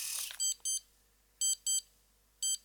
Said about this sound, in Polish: Mieliśmy trzykrotnie powtórzony sygnał podwójnego piknięcia, informujący właśnie o niskim poziomie naładowania baterii.